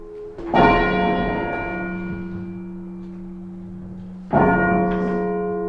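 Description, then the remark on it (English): The tenor bell of St John's Church in Redhill tolls twice at midday on a Saturday, each strike ringing out loud and clear with a long, slowly fading hum between the slow, measured strokes. “The tenor bell at St John's Church in Redhill tolled 99 times at midday on Saturday in honour of the Duke of Edinburgh.”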